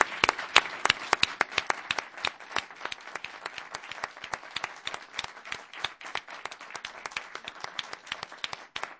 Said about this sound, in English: Well, but one more great round of applause for these wonderful artists.